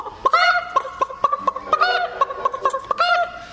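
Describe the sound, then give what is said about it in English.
A hen that has just laid an egg cackles loudly and insistently as she comes out of the hen house, a rapid run of sharp clucks building into drawn-out squawking calls, repeated several times with no talking. “and then out long through the chicken house, there'd come a hen proud to have laid an egg, and she'll come out of that hen house.”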